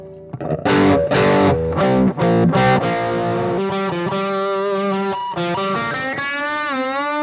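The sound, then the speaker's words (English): Electric guitar, a Flowcaster on the treble pickup, played through a distortion pedal into a Quilter amp, starting with several loud, gritty strummed chords, then moving into sustained, saturated single-note lines with bends and vibrato, upfront, no talking. “I think I'm using distortion there, right?”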